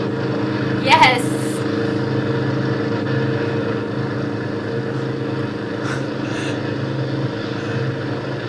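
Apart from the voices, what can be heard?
helicopter engine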